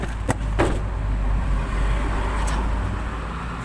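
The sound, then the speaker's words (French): A car goes by, its low engine rumble holding steady throughout, with a few sharp clicks and knocks early on and one more near the end. No one speaks. “Cache-toi, cache-toi, il y a une voiture.”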